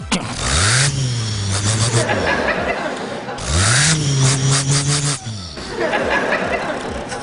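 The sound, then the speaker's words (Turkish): A man's voice imitates a Ford Transit van engine with his mouth, a low droning rumble that rises and falls through two revving bursts, followed by a sputtering idle, loud. “Bir mesela Transit'ten başlasak olur mu? Olur. Tamam. Bu Transit.”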